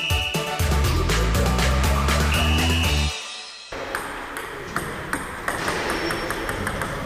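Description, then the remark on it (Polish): A sound table tennis ball clatters back and forth in quick, irregular bursts of sharp, ringing pings and knocks, with a low steady hum under the first few seconds and no talking, at the eighth Polish Championships in sound table tennis, a sport for visually impaired and blind players, at the Fairplay centre in Narmowice, Poznań, Poland. “W ten weekend na poznańskich Narmowicach w ośrodku Fairplay trwają ósme już Mistrzostwa Polski w tenisie stołowym dźwiękowym.”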